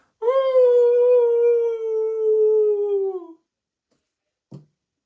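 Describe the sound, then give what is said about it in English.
A person imitates a wolf howl: one loud, sustained, slightly falling howl lasting about three seconds, followed by silence and a brief soft thump. “If anyone has any dogs, I hope that got their dog, your dogs to wake up, and I hope it ruined your day, because now they're yelling.”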